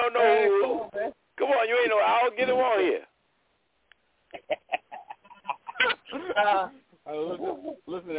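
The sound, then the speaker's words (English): A person imitates an owl hooting, with drawn-out, wavering vocal calls followed by a run of short, choppy bursts, loud. “Come on, you ain't no owl getting on here.”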